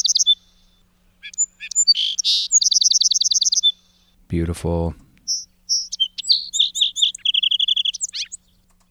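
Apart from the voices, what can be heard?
song sparrow song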